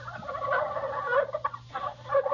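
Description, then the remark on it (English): A wild turkey gobbles in a rapid, warbling rattle, the calls bursting in quick repeated waves over about two seconds, loud with no voices present. “Well, it's the bird that you slice on Thanksgiving Day.”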